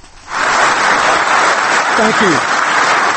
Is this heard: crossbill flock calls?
no